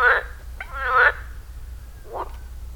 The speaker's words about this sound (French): Hé les filles, c'est quoi le bruit de la grenouille ?